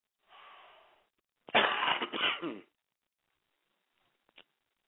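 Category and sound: human body sound, loud cough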